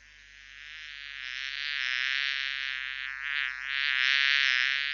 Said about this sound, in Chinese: 蚊子